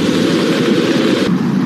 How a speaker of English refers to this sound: We've gone for main engine start. We have main engine start.